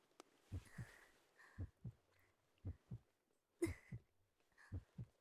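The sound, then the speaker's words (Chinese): A steady heartbeat thumps in paired lub-dub beats, about five double beats at an even pace, muffled, with soft breathy hiss between them and no talking. “宝，你好棒啊，这心跳是为我而跳动的吗？”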